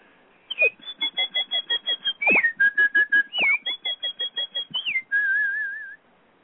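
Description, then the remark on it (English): A person whistles a quick, bright bird-like melody imitating the flute or piccolo theme that represents Sasha the bird, with rapid trills and staccato notes, ending on a wavering held tone, fairly loud. “Sonia the duck was represented by an oboe, and the cat was represented by a clarinet, and, you know, and Sasha the bird was represented by a flute or a piccolo.”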